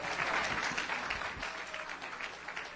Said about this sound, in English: Would you clap your hands just for a moment unto the Lord?